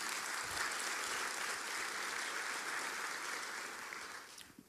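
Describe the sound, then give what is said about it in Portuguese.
Sustained applause from a sizable crowd, given as a round of applause for Jesus, a dense steady wash of many hands clapping at once that holds for several seconds before tapering off near the end. “Podemos dar uma salva de palmas para Jesus?”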